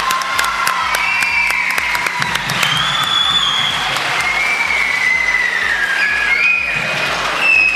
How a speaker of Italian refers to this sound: Ecco, un applauso per la professoressa di religione.